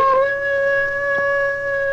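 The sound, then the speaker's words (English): A single sustained wolf howl, a clear steady tone with a slight rise at the start, held evenly at moderate volume throughout, with no other sounds or voices. “The four-legged wolf howl expresses its feelings there and then, and so does the wolf whistle.”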